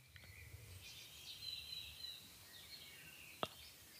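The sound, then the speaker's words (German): Birdsong outdoors: thin high whistles and chirps drift in and out over a quiet background hiss, with one brief sharp click near the end. “Ja, und zwar höre ich das auch die Vögels, die bünd hier an Vögeln.”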